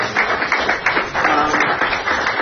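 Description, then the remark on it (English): A crowd applauds Spotify's arrival in South Africa, many overlapping claps blending into a dense, even patter that holds at a fairly strong level for a couple of seconds. “Yeah, and we should give these guys an applause.”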